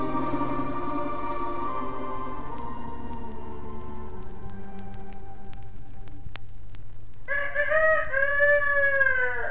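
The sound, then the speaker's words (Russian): A rooster crows once, loud, a long harmonic call near the end, preceded by several seconds of steady low droning background with a few faint clicks and no speech. “Последние петухи запели.”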